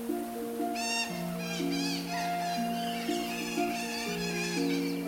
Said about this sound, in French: Ces sifflements sont les cris en fait de ces deux loutres, ouais. là, la mère et le petit, qui restent en communication permanente.